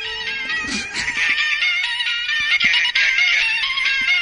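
A musical toothbrush plays a tinny, high-pitched electronic pop tune, a steady melody of bright beeping notes running for several seconds without pause and with no one talking.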